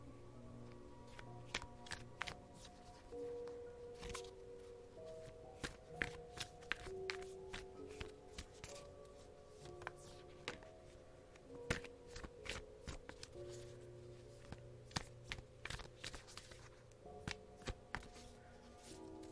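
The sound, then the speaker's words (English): A deck of tarot cards being shuffled, with a steady run of quick, crisp snaps and soft riffling flutters over about twenty seconds, with no talking. “Let me shuffle.”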